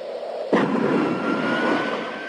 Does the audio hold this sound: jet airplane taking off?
yes